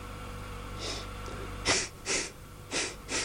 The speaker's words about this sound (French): « Ce sont peut-être les freins, » dit Perrine, en reniflant dans tous les coins.